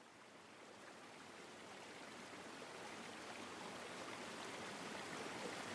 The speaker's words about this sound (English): Listen to the stream babble on peacefully. Think about being in the home of otters. River otters, sea otters, all kinds of otters. This river is near the ocean, and you can hear it if you listen closely.